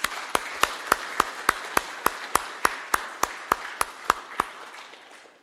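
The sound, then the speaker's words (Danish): A round of applause for a singer after her Advent and Christmas song, in steady rhythmic unison, about fifteen sharp, evenly spaced claps over a soft wash of background noise, tapering off at the end. No one speaks. “Du har godt nok fået en klapsal med, at du skal have en mere.”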